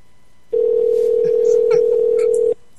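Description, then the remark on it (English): A single steady ringback tone from an outgoing prank phone call sounds for about two seconds, a loud, even electronic hum heard through the line, then cuts off abruptly, with faint background noise around it. “Don't say prank when the phone's ringing.”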